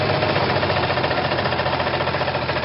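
A motorcycle engine rattles and roars loudly and steadily up close, a harsh, rapid knocking churn that fills the whole stretch without letup.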